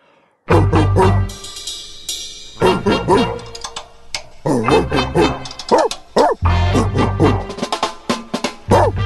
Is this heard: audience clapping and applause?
no